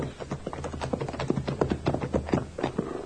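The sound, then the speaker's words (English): Horses' hooves clip-clop in a steady, uneven rhythm of many sharp knocks, with several animals being ridden up to the house at the Boone place, over a low background rumble and no one speaking. “you stay with the horses”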